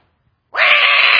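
After a brief silence, a baby suddenly lets out a loud, shrill scream that holds steady and piercing right up to the end, close and alone with no talking.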